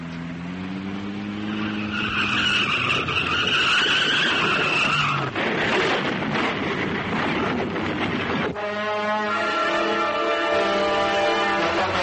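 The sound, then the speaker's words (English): A grey car roars at high speed toward a police car as tyres squeal in long, high-pitched skids, with a burst of harsh engine and road noise in the middle. Loud throughout, with no talking. “The grey car bears down upon the police car at high speed.”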